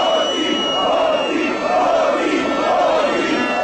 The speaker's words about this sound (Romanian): Peste 50.000 de oameni au ieșit din nou în stradă în București duminică seara pentru a menține presiunea asupra guvernului Grindeanu. În Piața Victoriei, mulțimea a format un tricolor uman, a scandat jos corupția și hoții.